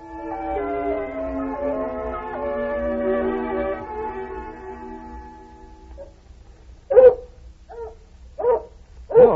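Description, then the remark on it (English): A female hound puppy named Lady Anne whimpers in long, wavering high whines for several seconds, then lets out a few short, sharp yips and barks, with no one speaking. “That pup's developing sense. Wouldn't be surprised if she turned out to be the best hound we ever had.”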